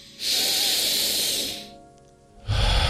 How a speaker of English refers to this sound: Breathing slowly connects us to our body and creates light. Try it for a few breaths.